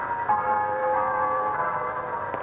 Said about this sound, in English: Lovely, the sound of country church bells, aren't they?